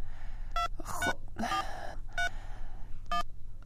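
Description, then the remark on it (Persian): Short bursts of mobile phone keypad tones sound one after another in a quick, uneven sequence as someone dials a call on a borrowed mobile phone, with faint breathy vocal sounds in between over a steady low hum. “خدا کنه که زود برداره.”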